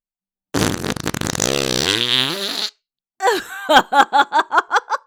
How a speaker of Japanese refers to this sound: ほうひほうひ大ほうひ。ああおなら気持ちいい。大噴射気持ちいい。臭いのいっぱい出して気持ちいい。